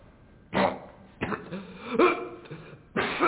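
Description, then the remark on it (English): A few short, harsh coughs used as a signal, spaced by brief pauses, with some rough throat-clearing in between and no one speaking. “One cough me, you go. Two cough me, you take the lead.”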